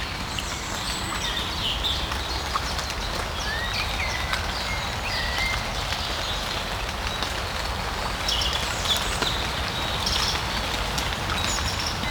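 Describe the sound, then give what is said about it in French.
Water droplets patter steadily from shaking tree leaves as the rain clears, beside a river estuary that flows into the ocean. Scattered taps fall over a soft, even wash, with faint bird chirps surfacing now and then. No voices are heard. “Parmi les gouttelettes d'eau qui tombent des feuilles des arbres qui s'ébrouent,”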